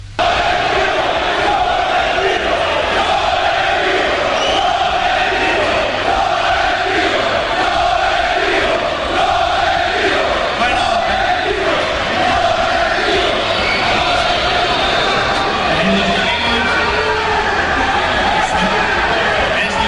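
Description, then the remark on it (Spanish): A large crowd roars and shouts continuously as Real Madrid president Florentino Pérez arrives and steps out of a van, a dense, loud wall of overlapping voices with cheers and cries rising and falling throughout, no single speaker standing out. “Bueno, ya se ha abierto la puerta de la furgoneta y ha pasado, escucha esto.”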